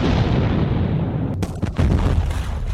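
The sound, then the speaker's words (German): A loud, sustained explosive roar fills the scene, with a few sharp cracking bursts near the middle, as a train wreck explodes after machine-gun fire. No voices are heard. “Durch die vielen Schüsse explodierte der Zug.”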